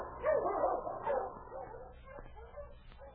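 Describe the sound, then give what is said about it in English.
A dog whimpers and whines, its plaintive cries rising and falling, broken by a few short yipping barks before trailing off more quietly. “On your feet, you mangy cur!”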